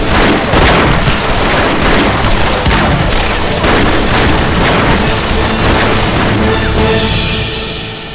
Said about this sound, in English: With no horses left to shoot at, the attackers soon turned their attention to the cattle, and after that, anything that moved. They soon found the range of the doors to the ranch house, and they began to pour lead into the building.